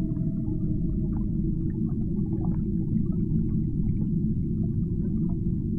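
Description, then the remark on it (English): Whale songs and calls drift through a deep, steady underwater rumble, with faint tonal moans and scattered higher chirps and squeaks echoing. No one speaks. “Down towards the songs and calls of whales.”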